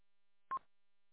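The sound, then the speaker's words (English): A single short electronic chirp from a radio's timeout timer, a quick mid-pitched beep lasting a fraction of a second, standing alone against silence with no talking. “Do you have a timeout timer on that radio? Is that what I keep hearing chirping?”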